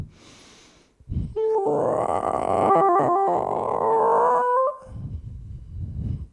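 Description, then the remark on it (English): A whale calls in one long, loud, moaning cry lasting several seconds, its pitch wavering and bending with a few sharp shifts before it cuts off, leaving a low rumbling background. “It's a whale.”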